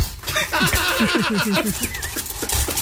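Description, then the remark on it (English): A drunk pig in Colorado oinks in a quick run of short, rhythmic grunts, about eight in a row, fairly loud, followed by a couple of scattered snorts against faint background noise. “Hardest part of dealing with the drunk pig?”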